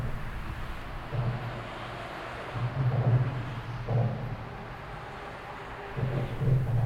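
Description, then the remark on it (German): A steady low rumble of motorway traffic overhead, with heavier drumming thumps swelling every second or so as vehicles pass, over a constant hiss. No voices. “Dies Trommeln klingt jedes Mal anders, je nach Jahres- und Tageszeit, Wetter und Verkehrslage.”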